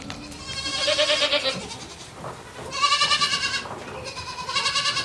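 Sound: goats bleating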